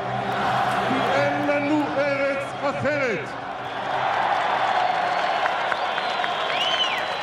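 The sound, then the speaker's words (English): A large crowd at a Benjamin Netanyahu rally cheers and roars continuously as he attacks Arafat and the government of Yitzhak Rabin, with applause and scattered shouts and whistles rising above a dense, loud wash of voices throughout. “The crowd was with him as he attacked Arafat.”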